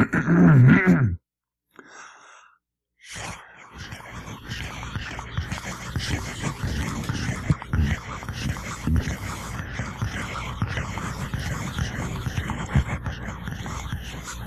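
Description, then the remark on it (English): A voice imitates rain: after a brief vocal hum and a short pause, a steady hissing, crackling patter of mouth noise runs on for about eleven seconds at an even, moderate loudness. “If you'd like to hear an automobile or a jet plane or a rain or any particular type, what? Oh, let's try rain.”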